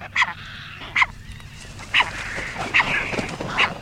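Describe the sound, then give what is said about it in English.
Harsh, squawking calls of herons, egrets, gulls and terns repeat roughly once a second over a steady murmur of other birds: a busy waterbird nesting colony in nesting season, inside an old castle. “Meanwhile, inside the castle, the calls of herons, egrets, gulls, and terns ring throughout the nesting season, monitored carefully by state biologists.”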